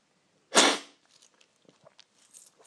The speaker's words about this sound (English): And then you'll be ready to slurp. So stay tuned for the slurping. So they've cooled down enough, ready to take my first slurp of the Duromina.